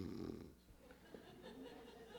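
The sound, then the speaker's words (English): A person imitates a sleeping sailor's gentle snore: one soft, breathy rasping inhale, fading into quiet, airy breathing for the rest of the short moment. “But he propped himself on these big ears, or big eyes, you know, and just looked out there, and he was just snoring, not loud, just, you know, a gentle.”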